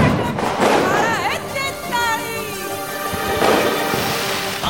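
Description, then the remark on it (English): Diwali firecrackers burst repeatedly over a few seconds in the city of Kolkata, India, sharp cracks mixed with rising and falling whistles, against a steady loud background of noise and voices. “when the city lights up, it is hard to stay unmoved. It is the triumph of light over dark after all. I just wish it didn't happen with quite such a bang.”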